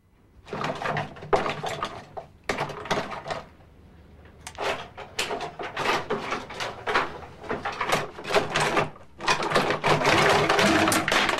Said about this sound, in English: She opens a drawer full of cosmetics and rummages through it impatiently.